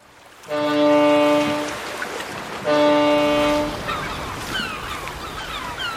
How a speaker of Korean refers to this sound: 항구에는 고기잡이 배들이 쉴 새 없이 드나들고 갈매기들은 마스트 주위를 빙빙 맴돈다.